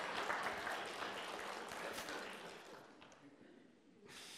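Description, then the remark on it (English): Loud, dense clapping from a crowd fills the first few seconds, then thins out and fades before a brief swell of noise returns at the end. “I should get an applause for that.”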